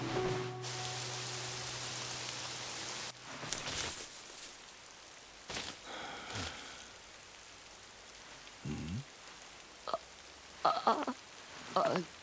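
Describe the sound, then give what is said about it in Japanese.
Rain pours down in a steady, loud hiss for the first few seconds, then gives way to a quieter stretch broken by scattered knocks and a few faint, brief vocal sounds. “奇遇ですね。ちょっと雨宿りで。”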